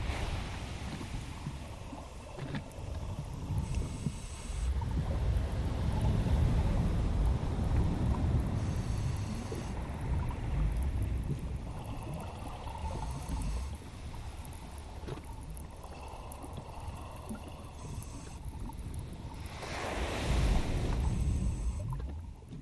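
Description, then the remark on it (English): Ocean waves in warm tropical waters wash steadily with a deep, rumbling roar that swells and eases, building to a stronger surge near the end, with some wind buffeting and no voices. “I encourage all of you to relax right alongside me as we go into this immersive experience with me, Steph Wolf, into the warm tropical waters of our world's oceans.”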